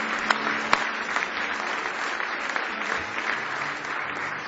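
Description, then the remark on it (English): An audience at a worship service claps hands together in steady, sustained applause as praise to the Lord, a dense wash of many hands at moderate volume with a few sharper claps standing out. “Give the Lord one more hand clap of praise tonight if you love Him.”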